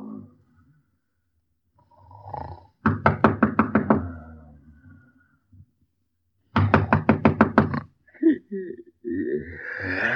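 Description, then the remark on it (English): Two bursts of rapid knocking on a door, each about six or seven firm, evenly spaced raps, separated by a pause, with a faint voice murmuring between and after them. “What's the matter? Who's at the door?”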